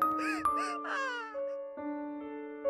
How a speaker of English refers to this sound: Little Red Riding Hood looked around for a moment and started crying, realizing that she was lost. Hearing her crying, the hunter approached and came next to her.